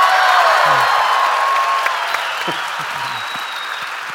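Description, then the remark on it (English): A crowd applauds loudly and steadily, dense clapping with a few cheers and whoops mixed in, sustained for several seconds before tapering slightly. “But do a round of applause, and we're back.”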